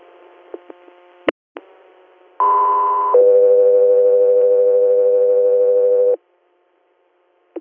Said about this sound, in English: you're standby for tones.